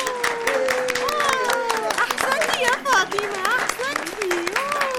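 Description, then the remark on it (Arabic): An audience claps in a dense, steady burst for about five seconds, many hands beating quickly, while high-pitched voices cheer and call out over the applause. “رجاء صفقوا لها كثيرا، لأنها فتاة رائعة وفتاة تحب المساعدة جدا.”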